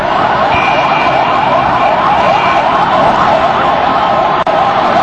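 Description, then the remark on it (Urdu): Several ambulance sirens wail at once, loud and continuous, their overlapping rising and falling tones filling a busy, noisy street scene for the whole stretch, as ambulances arrive at the site of a suicide bomb blast on a bus. “بعد کے مناظر آپ اس میں دیکھ رہے ہیں جس میں ایمبولینسز کی آوازیں بھی سنی جا سکتی ہیں.”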